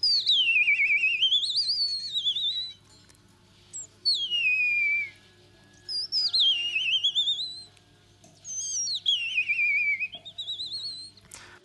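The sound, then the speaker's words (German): An ornithologist and bird-voice imitator whistles a series of warbling, bird-like calls in four separate phrases, each sweeping up and down in pitch, loud with short pauses between them; no one speaks. “Ornithologe und Vogelstimmenimitator.”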